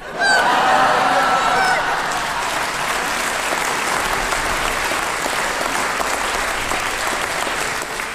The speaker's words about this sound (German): Doch kaum hatte er gesprochen, da setzte ein prasselnder Regen ein und fiel auch auf das Fell des Esels.